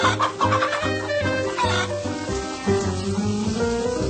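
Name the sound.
chickens squawking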